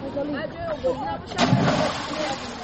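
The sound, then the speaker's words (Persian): Schoolchildren and teenagers splash and swim in river water in Tajikistan. Lively voices call out over steady sloshing, with a louder burst of splashing midway, outdoors. “حالا اکثر مکتب بچه ها یا جوانان نورسان در دریاها آبازی میکنند.”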